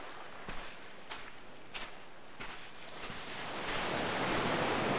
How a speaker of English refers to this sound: It's the sea. Wow, fantastic beach.